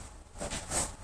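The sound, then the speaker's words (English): A single quiet sneeze: a short breathy intake swelling into a hissy, sharp burst that fades quickly, with no talking around it. “anyway. Gesundheit.”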